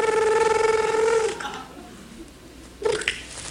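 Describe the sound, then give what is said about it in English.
A voice mimics a telephone ringing with a loud, buzzing, warbling tone held for over a second, followed after a pause by a short, quieter burst, in a studio, opening a mock 911 emergency call. “Okay, so can you make a ringing noise?”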